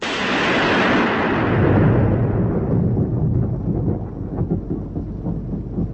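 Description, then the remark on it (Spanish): A long, loud roll of thunder rumbles and crackles, strongest at the start and slowly fading into a deep, continuous low growl, with no voices present. “Al darse cuenta de que había llegado tarde, se enfureció y desencadenó una tormenta.”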